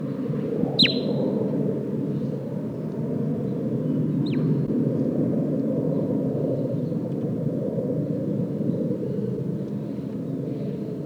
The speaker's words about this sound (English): Bird 8 giving soft toots.